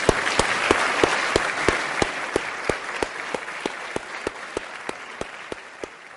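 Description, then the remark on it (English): An audience at a discussion event in Cambridge applauds steadily for several seconds, a dense wash of clapping with a few sharper individual claps standing out, gradually easing off toward the end. No one speaks. “For the moment, will you join me in giving them a round of applause?”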